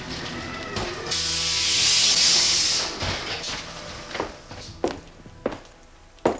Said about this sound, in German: Soeben kam einer der Wagen durch ein dunkles Tor zurück an den Startpunkt gerollt.